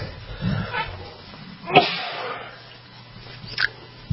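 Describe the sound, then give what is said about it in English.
Two sharp, explosive sneezes from a person who suddenly cannot stop sneezing, about two seconds apart, the first louder than the second, with faint low background noise in between. “Sorry, I'm sneezing here. All of a sudden, I just couldn't get it to stop.”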